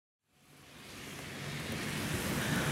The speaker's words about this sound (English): So it's a rainy and windy morning in Vancouver. And I'm just walking down the street in the area of the city called the Downtown East Side, which is really the heart of the opioid crisis.